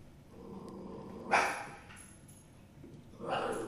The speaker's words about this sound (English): she's growling at the dog in the reflection again.